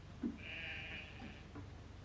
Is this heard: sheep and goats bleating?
yes